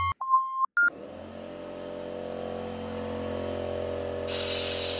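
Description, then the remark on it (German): A coffee machine gives a couple of short electronic beeps, then its compressor starts with a steady, droning motor hum, joined near the end by a loud hiss of steam as the machine heats up. “Naja, der Kompressor springt halt mit an und wenn das Ganze dann aufheizt, dann kann das schon mal ein bisschen dampfen.”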